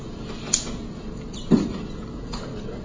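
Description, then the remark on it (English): A door is moved, giving a light knock followed about a second later by a heavier, low thud, then a faint rattle. The sounds are fairly quiet, with steady background noise and no talking. “If the door helps, I don't know.”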